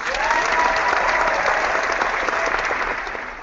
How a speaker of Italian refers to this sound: Aaron Ripkowski, fullback da Oklahoma, 206 assoluta. Faccio partire l'applauso.